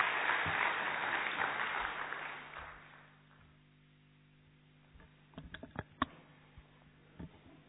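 Loud, dense audience applause fills the opening seconds, then fades out by about three seconds, leaving near silence broken by a few scattered sharp claps or taps.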